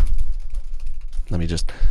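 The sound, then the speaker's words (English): A voice mimics a hotel clerk typing on a computer keyboard with a quick run of soft, clicky taps over a low rumble, then breaks into a brief voiced sound near the end. “This lady goes, okay. This is me typing, you know, okay.”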